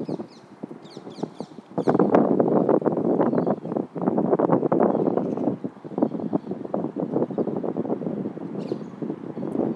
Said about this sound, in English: There's quite a breeze, but it's not the kind of breeze that you expect in February. You know, I think even into March or even April, you could still have quite icy winds at times.